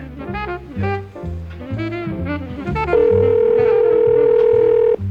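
A single steady electronic ringback tone of an outgoing call ringing at the northernmost telephone in the Americas sounds for about two seconds, loud and clear, over a rhythmic music bed that plays throughout.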